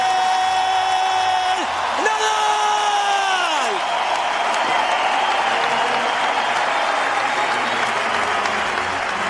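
A large crowd at the Madrid Open tennis tournament applauds steadily and loudly throughout, a dense unbroken wash of clapping in farewell to Rafael Nadal. During the first few seconds, sustained high tones slide downward over it, like whistles or cheers.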